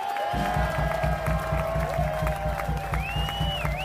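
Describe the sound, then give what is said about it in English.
A crowd applauds and cheers at the 7th Annual Guitar Geek Festival in a steady, dense wash of noise, with a rising whistle near the end, over a sustained tone and a regular low thumping pulse. “How about a big rousing applause”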